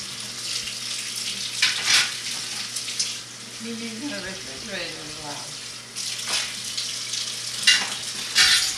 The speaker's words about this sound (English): That water is awfully loud. Well, you can't control that.